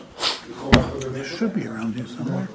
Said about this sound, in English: For those of you listening at home, this is where we're searching for a tissue.